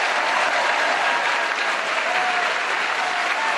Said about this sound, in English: And finally, and our thanks to our magnificent, wonderful team, that is Paul Merton, Graham Norton, Sheila Hancock, and Clement Freud, a special round of applause for them, please.